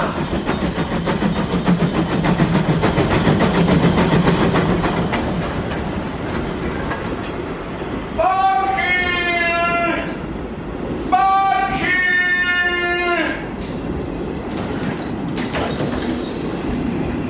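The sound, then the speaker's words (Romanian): A mail train rumbles and clatters loudly along the rails at a level crossing, then sounds two long, steady horn blasts as it rolls on. “E pe la trecerea de nivel! Poșta! Poșta!”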